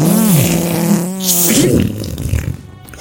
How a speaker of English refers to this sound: we need more farting